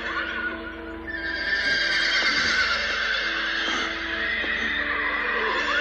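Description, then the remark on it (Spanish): Horses neighing from the shore in a steady, overlapping chorus of high, quavering whinnies that carry on for several seconds at a fairly loud, even level, with no voices present. “Mientras zarpaba, los yuins relinchaban desde la orilla.”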